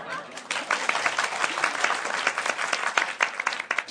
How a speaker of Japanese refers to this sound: あまり上手にできませんでしたけども、拍手するならする、しねえなら死ねえ。